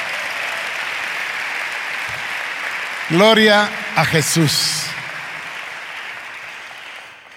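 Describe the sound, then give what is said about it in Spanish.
A church audience claps loudly for the Lord in a dense, continuous wash of applause. Midway a single voice calls out a short phrase over it, and the clapping thins slightly toward the end. “Si vamos a aplaudir al Señor, aplaudamos fuerte.”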